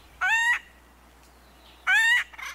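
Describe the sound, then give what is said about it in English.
Acorn woodpecker calls: two loud, nasal, buzzy squawks about a second and a half apart, with a quiet pause between them and no talking. “Acorn woodpeckers are extremely social.”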